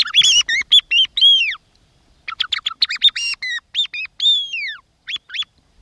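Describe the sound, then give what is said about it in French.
A song thrush, perched high in spruce trees in the Sarcena forest on the Dufre massif, sings clearly, delivering bright, whistled phrases in short bursts, with a brief pause before launching into a fresh run of varied, repeated notes. No voices are present. “Et sur les épicéas qu'on voit là-bas au bout, tout en haut perché, il y a la grive musicienne.”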